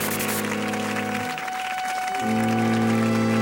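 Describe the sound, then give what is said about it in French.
A studio audience on a 1957 television show applauds Hedy Lamarr in a steady, dense patter, while sustained low musical tones hum underneath, briefly dropping away midway before returning. “On la célèbre encore, comme dans cette émission de télévision datée de 1957 où on l'applaudit.”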